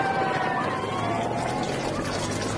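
A steady wash of road traffic from the cars and motorbikes following the riders of a cycling race, passing in a continuous roar, with an engine's whine standing out early and fading as it moves away.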